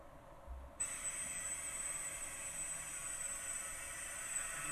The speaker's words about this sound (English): Yeah, in this result, in our test, the target drone just passed through without any response. We think it's because our sonic wall is too thin.